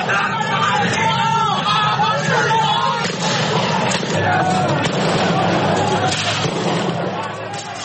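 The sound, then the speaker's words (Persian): A loud street protest in Venezuela: a dense crowd of demonstrators yells and shouts continuously while security forces fire plastic bullets to disperse them, several sharp, popping shots cracking out at irregular intervals. “گزارش‌های پس از این تظاهرات حاکی است که نیروهای امنیتی برای متفرق کردن تظاهرکنندگان از گاز اشکاور و گلوله‌های پلاستیکی استفاده کردند.”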